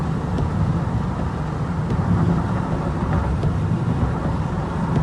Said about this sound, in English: It's just truck after truck after truck after truck, backed up. A lot of them are on the side here. It just hasn't stopped. That's a long line of trucks.